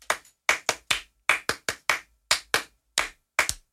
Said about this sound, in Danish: Okay, lad os lige prøve. Så laver vi sådan en klappeøvelse her.